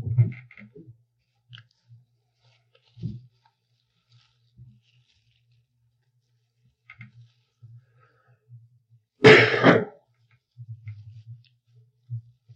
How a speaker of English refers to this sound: did you get that cough since you came here? Yeah, I got a cold.